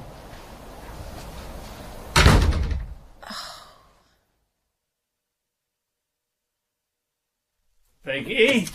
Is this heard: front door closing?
yes